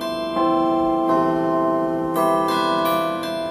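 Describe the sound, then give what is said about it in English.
Tuned metal rod chimes, specially tuned to sound like a cast bell, played by the university carillonneur on the roof of Geisel Library, ring out: a series of bright struck tones with long sustained, overlapping overtones, about six strikes in slow succession, loud with no talking. “The way these chimes work, you can see that there's some metal rods specially tuned to sound as if they're a cast bell, and they really sound spectacular.”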